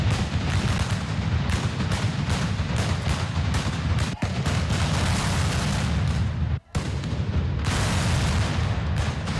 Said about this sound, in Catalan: ja una trabucada a càrrec del Mingo i una tronada a la festa major.